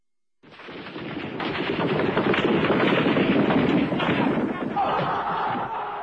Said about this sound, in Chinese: 坦克车向北京天安门广场推进，不时传出枪声。